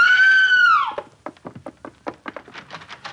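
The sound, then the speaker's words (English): A woman raising the alarm lets out a loud, sustained high-pitched scream that trails off after about a second, followed by a rapid series of short, choppy vocal bursts. “She yelled at everybody.”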